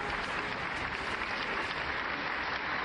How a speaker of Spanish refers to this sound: Sí me gusta el aplausito.